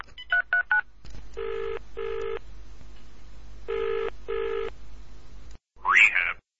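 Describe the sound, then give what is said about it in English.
Three quick keypad dialing beeps on a telephone, followed by a hissy phone line carrying two pairs of ringing tones, then a short burst as the call connects; the call is made to book an appointment with a doctor. “Lisa went home in a funk, made herself tea, and picked up the phone.”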